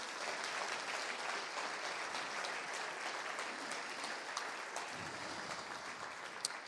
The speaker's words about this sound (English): How about giving a round of applause for these guys, huh?